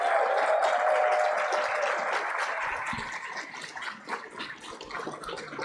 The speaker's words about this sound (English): So thank you. How about a round of applause for everyone who's not editorial?